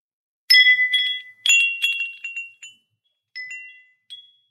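A small café bell jingles as someone leaves, in a few bright, ringing bursts, the first two strongest, followed by softer tinkles that fade out. High, clear metallic tones with no voices.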